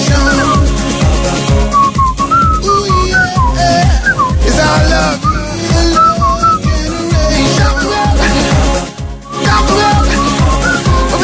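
A bright whistled melody carries a bouncy, repeating tune over a loud, steady dance beat with bass and backing music, continuous throughout, with no talking.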